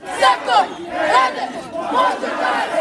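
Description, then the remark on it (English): A crowd of many protesters shouts and chants together in a dense, agitated roar as they march from a park around the town as rain starts to fall, rising and falling in loud surges with no single voice standing out. “As the rain started to fall, the crowd set off from the park to march around the town.”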